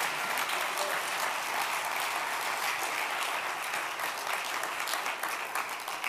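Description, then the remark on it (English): An audience at a church sermon applauds the Lord for love, steadily for several seconds, a dense wash of many hands clapping at an even, sustained loudness with no talking. “Let's give the Lord a big round of applause for love.”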